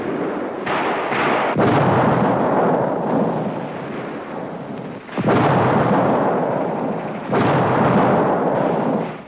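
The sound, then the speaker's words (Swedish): Battle noise of German aircraft firing machine guns at advancing Finnish troops: a dense, loud, roaring wash of gunfire with several sharp blast-like surges, sustained throughout with no voices. “Tyska flygplan anfaller de framryckande finnarna med kulspruteeld, och striden tilltar i ursinne.”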